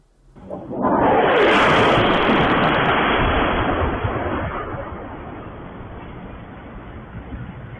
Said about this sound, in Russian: Это фактически в центре Белгорода. Давайте посмотрим, как это выглядел момент взрыва.